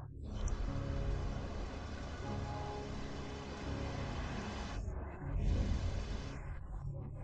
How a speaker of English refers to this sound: You look at the sky and see large clouds full of water about to fall. The sounds of thunder and lightning begin to appear. And it begins to rain heavily.